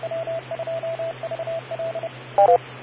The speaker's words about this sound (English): Ah, phone's going off.